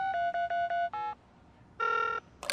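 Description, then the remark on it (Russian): A telephone rings during a call placed to Ded Moroz and Snegurochka: a quick run of five electronic beeps, a brief higher tone, a pause, then a longer steady ring and a short final burst. No voices. “А, да, прямо сейчас я им позвоню.”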